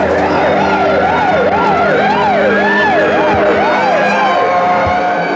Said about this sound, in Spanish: El ulular de las sirenas va haciéndose cada vez más lejano, hasta desaparecer.